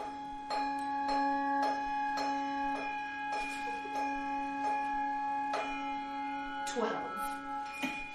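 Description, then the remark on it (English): A clock bell strikes twelve in a steady, even rhythm, each stroke ringing on with a sustained hum that carries beneath the next, loud, heard from an open place. “Suddenly, as they stood together in an open place, the bell struck.”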